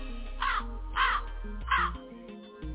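Three harsh, raspy hawk calls ring out about half a second apart, loud, over a steady low musical drone.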